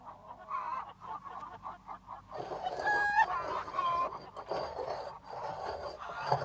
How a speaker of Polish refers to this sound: Ej ty, ptaszku! Zostaw to żarno, a weź chleb i ser